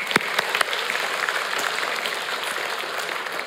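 A crowd claps steadily for twelve families, a dense, even patter of many hands with a few sharper claps standing out at the start, sustained at moderate loudness without any talking.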